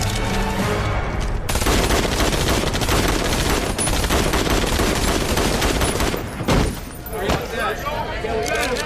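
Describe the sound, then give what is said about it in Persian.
Loud, rapid bursts of gunfire rattle almost continuously for several seconds, then break off into a few scattered shots and a lingering, noisy tail. “این گلوله ها رو بشمار.”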